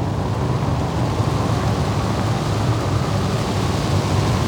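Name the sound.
strong wind blowing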